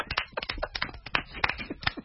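An audience breaks into applause, a dense, irregular patter of many hands clapping at once, steady and moderately loud for about two seconds with no voices over it.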